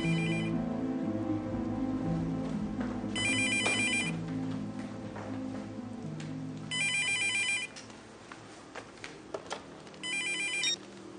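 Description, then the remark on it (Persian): A telephone rings in repeated electronic bursts, four short high-pitched trills spaced a few seconds apart, over a steady low background hum. “همسایه هم که میبینن زنگ میزنه به پلیس.”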